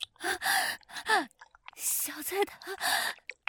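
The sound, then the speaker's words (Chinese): Heavy, breathy panting, with several quick gasping inhales and exhales in an uneven rhythm, fairly loud, some breaths catching with a slight voiced edge; a mother out of breath from tiring tidying work. “妈妈没事，只是收拾的累了，有点喘气。”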